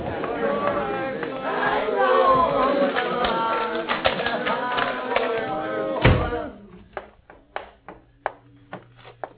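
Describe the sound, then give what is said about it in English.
A dense crowd of voices outside a house door shouts and clamors loudly for about six seconds, crying for Jesus to cure them, then a sharp door thud cuts it off, leaving quiet scattered knocks and taps. “James rose and opened the door to see who was shouting.”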